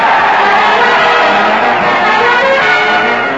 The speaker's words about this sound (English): Listen to that crowd. They're jumping up and down and cheering